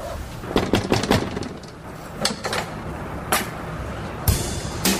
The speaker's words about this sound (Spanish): Este se queda fumando e ingresa a su oficina nuevamente. Cierra la puerta.